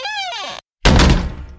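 A door swings shut with a short, descending hinge squeak, a brief pause, then a loud, heavy thud as it closes, its rumble fading quickly. No voices.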